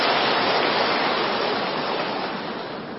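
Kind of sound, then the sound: crowd, audience applause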